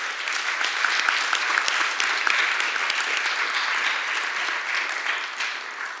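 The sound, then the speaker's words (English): A crowd applauds three guest speakers steadily for about six seconds, a dense wash of overlapping claps holding an even loudness throughout and easing slightly at the end. “If we could just give them a round of applause.”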